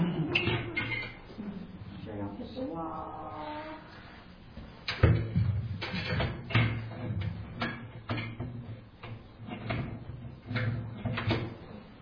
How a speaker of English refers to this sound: Oh, I gotta flip over the door.